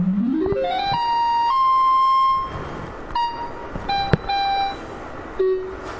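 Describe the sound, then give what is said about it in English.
Synthesizer tones jump upward in quick steps as octave up is hit a couple of times from a very low setting, then hold a bright, buzzy sustained note before a few shorter notes sound at differing pitches, with brief pauses between them and no voices. “Okay, so what I'm gonna do is, when you'll notice that's really low, so I have to hit octave up a couple times. Yeah, there we go.”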